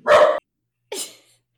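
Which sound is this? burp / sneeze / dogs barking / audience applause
dogs barking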